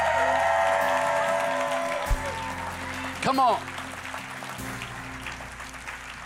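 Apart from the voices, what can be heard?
audience hand clapping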